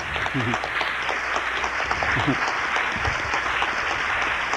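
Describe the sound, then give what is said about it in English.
An audience applauds steadily for a former trio member asked to stand up, a dense, even wash of many hands clapping at once for the full few seconds, with a few voices briefly audible underneath. “And I'd like for him to stand up and give him a great big old applause”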